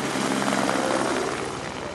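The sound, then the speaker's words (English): A helicopter's rotor drones steadily and fairly loudly, a constant whirring roar that eases only slightly toward the end as it flies away after lowering four one-gallon water jugs. No voices. “The helicopter lowers 4 one-gallon jugs and flies away.”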